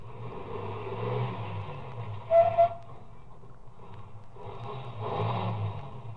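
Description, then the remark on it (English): A car engine rumbles steadily, slowing and then picking up again as the car that passed turns around and drives back toward the listener, with a brief high squeal midway through. “Ahead, the car that passed me slowed down and it also stopped. Then turned around and came back toward me.”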